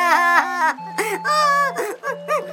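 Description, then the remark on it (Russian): A young boy wails and sobs in several drawn-out, wavering cries with short breaks between them, loud, over a faint steady low hum. “И заплакал.”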